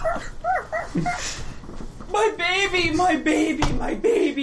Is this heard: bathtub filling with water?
no